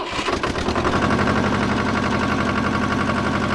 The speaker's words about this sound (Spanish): El tractor comienza a moverse, a viajar ladera abajo